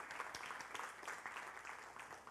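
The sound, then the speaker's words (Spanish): An audience claps steadily for a couple of seconds, a dense crackle of many hands at an even, moderate level, with no voices over it. “Y aplaudimos porque suena religiosamente correcto.”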